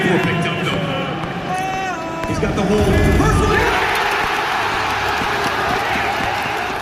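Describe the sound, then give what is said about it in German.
A large esports arena crowd at the ESL roars and cheers continuously as the German team BIG reaches the final, with shouted voices and whoops rising over a dense wall of noise that swells louder partway through and stays loud to the end. “Ja, so klang das, als die Jungs vom deutschen Team Big ins Finale gekommen sind.”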